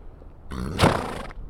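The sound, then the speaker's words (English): A horse named Star, a mare on a farm having her chin whiskers clipped, gives a single loud whinny lasting under a second, rough and breathy with a rising burst in the middle, then it falls quiet against faint background noise. “This bearded lady is a horse.”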